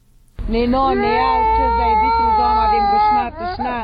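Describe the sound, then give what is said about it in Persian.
A three-year-old child of a displaced family from Kunduz, now in Kabul, Afghanistan, cries loudly and continuously from hunger, a sustained wailing sob with a brief catch near the end before the crying resumes. “41 ساله کندوزی، زن آواره که گریه کودک 3 سالش از گرسنگی مجال صحبت را نمیدهد”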